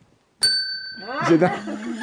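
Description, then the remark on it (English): A single bright bell ding rings out clearly and lingers with a sustained metallic tone, then voices start talking over its fading ring. “It just rings the bell.”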